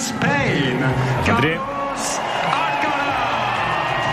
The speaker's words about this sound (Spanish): Ovación para Carlitos, que ahí está saludando tranquilamente con sus raquetas a la espalda.